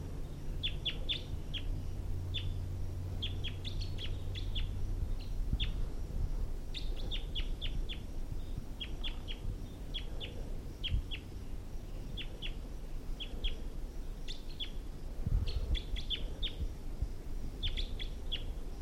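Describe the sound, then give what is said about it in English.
A wild male bird sings from high up in the trees in repeated bursts of short, high chirps and trills, steady throughout over a low background rumble, with no voices. “So recording, that wild male is high up in the trees now.”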